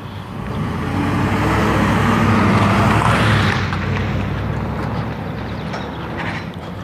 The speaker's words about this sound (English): Got the company truck out for Sunday morning ride or early morning call on a Sunday.